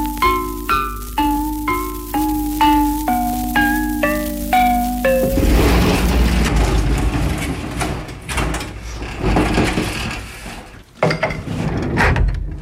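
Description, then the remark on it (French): Stone lithophone at the Musée de l'Homme struck about a dozen times in quick succession, each bright metallic ring stepping lower in pitch, then giving way to a steady rumbling wash of noise. “J'ai tapé simplement sur les pierres et j'ai entendu un bruit métallique.”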